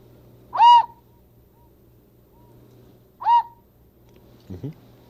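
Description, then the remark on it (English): A large whistle, one of a tray of different kinds of whistles, gives two short, breathy hooting toots a few seconds apart, fairly loud, followed by a brief low murmur. “A whole tray of different whistles. See them all? All different kinds. Look at this big one.”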